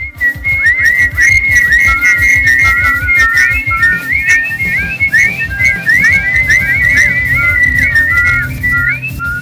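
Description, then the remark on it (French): A flock of sparrows whistles and chirps on a branch: many overlapping, quick high-pitched calls form a steady, busy chatter throughout, over a low background rumble. “Fermez les yeux, imaginez toute une ribambelle de spatz Sandra alignée sur une branche d'arbre, évidemment, en train de siffler joyeusement. Vous avez l'image? Alors voici le son.”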